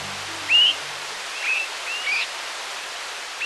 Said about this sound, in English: Swainson's thrushes are calling to one another while flying at night.